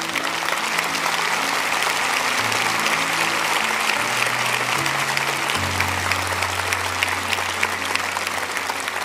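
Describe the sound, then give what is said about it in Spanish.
Sustained applause from a church audience during a service, encouraging people who are standing up to accept Jesus. Dense and steady for several seconds, with a low droning tone, likely organ or keyboard, shifting underneath. “Yo quiero que donde usted esté, los anime dándoles el mejor aplauso que usted pueda.”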